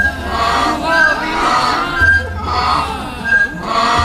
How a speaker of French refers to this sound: Il avait vu les chameaux du camp ennemi et se précipita sur eux en poussant d'énormes cris. Cette fois, ce fut la débandade. Les soldats s'enfuirent et l'âne se mettait à braire de plus belle.